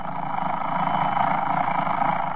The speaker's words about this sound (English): Take, for instance, that alarm clock.